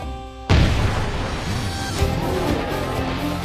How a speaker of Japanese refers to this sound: あれは花火と言います。見て楽しむもので、リーシェンでは夏に打ち上げるそうですよ。